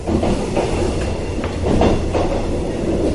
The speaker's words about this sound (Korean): 지난 4월 12일부터 기적소리를 내며 달리기 시작한 이 열차의 이름은 중부내륙순환열차 O트레인과 백두대간 협곡열차 V트레인입니다.